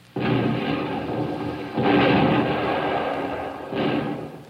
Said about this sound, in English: Welcome sound we've long been waiting for. The United States Third Fleet shelling Tokyo Bay.